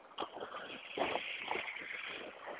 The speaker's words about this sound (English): Here comes a car trying to turn where I'm standing. I'm trying to find the sidewalk so I can stand on it. There we go. He apparently had the wrong street after all because he decided not to turn.